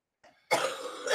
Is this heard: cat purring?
no